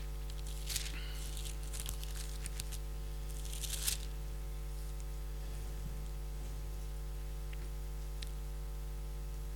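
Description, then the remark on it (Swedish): Thin Bible pages are flipped through to find Matthew 15, making a few brief, crisp papery rustles spaced a few seconds apart, fairly quiet, over a steady low electrical hum. “Jag ska bara bläddra fram.”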